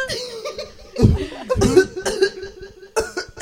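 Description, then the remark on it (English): A person imitates a baby's whooping cough: a few sharp, raspy cough bursts with a strained, high-pitched intake between them, followed by a trailing gasp and some laughter. “Wait, has anyone heard the whooping baby cough commercial?”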